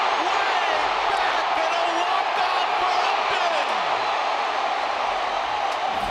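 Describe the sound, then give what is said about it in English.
A large baseball crowd at a Tigers–Twins game, coming to life as Justin Upton comes up to bat after a two-run home run by Jose Iglesias, cheering in a steady, dense roar that holds loud and unbroken for six seconds, with no clear individual voices standing out. “And the crowd coming to life.”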